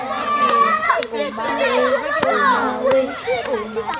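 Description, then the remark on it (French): Children play on a mild spring day, their voices chattering and calling out in a steady, lively babble, with high-pitched shouts and a few sharp knocks or claps cutting through the playful noise. “L'air est doux, les enfants jouent.”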